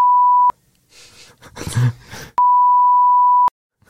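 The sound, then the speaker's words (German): Two loud, steady electronic beeps at a single pitch, each lasting about a second, separated by a stretch of breathy, groaning vocal noise, with a short silence after the second beep. “Oh, jetzt haben wir hier alles, es ist schon wieder so eine reine Rumgepiepe hier.”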